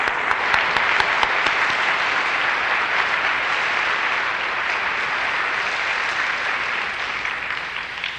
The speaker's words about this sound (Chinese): 我们将一切的感谢荣耀归给神，我也希望大家能够拍手谢谢这些服务的人。